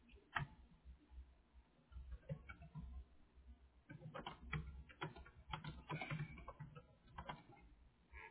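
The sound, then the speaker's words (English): Typing on a computer keyboard: irregular bursts of soft keystroke clicks, with brief pauses between flurries and no voices. “Sí, ahorita lo estoy escribiendo.”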